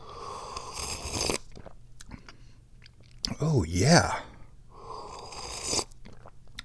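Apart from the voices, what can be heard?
sipping hot tea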